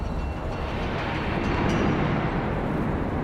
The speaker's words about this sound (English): Oh, wow. This is a powerful gust. It actually is a pretty powerful gust. Gale force.